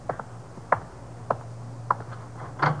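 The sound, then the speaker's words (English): A kitchen door lock being tried and checked: five sharp metallic clicks and rattles at a steady, unhurried pace, over a faint low hum, with no voices. “You were right. It was unlocked. I'll lock it up.”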